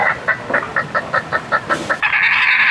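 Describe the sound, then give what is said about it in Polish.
A badger's call: a rapid, even run of about eight throaty clucking chirps, followed by a sustained, higher-pitched squealing whine, fairly loud with no talking. “Na przykład mamy tu borsuka.”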